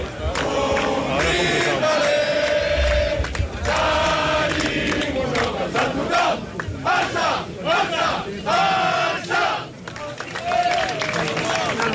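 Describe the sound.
A large crowd sings the FC Barcelona (Barça) anthem, moving on to its second part, in loud, sustained unison, voices rising and falling together with a few brief dips in volume across the stretch.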